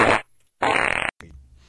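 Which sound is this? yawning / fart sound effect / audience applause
fart sound effect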